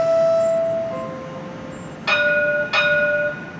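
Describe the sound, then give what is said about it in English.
A large, quiet Kansas City streetcar rolls up to the stop at 12th and Main with a low, steady hum, then its warning bell rings two bright, clear dings about a second apart, each tone lingering briefly. “As it comes up to the stop, my first impression is that it's pretty big, but it's actually really quiet, besides a funny little warning bell.”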